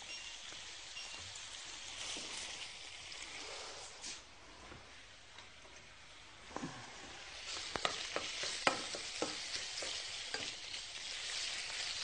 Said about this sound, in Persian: میرم به سراغ مرغ. مرغ رو کاملا تفتش میدم.